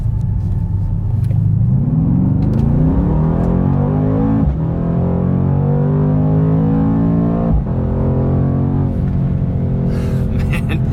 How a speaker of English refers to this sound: Never gets old. Oh, I absolutely love the sound of this 4-liter twin turbocharged 563 horsepower V8. It's turbocharged, but you'd be forgiven to think it's naturally aspirated because it sounds so throaty and visceral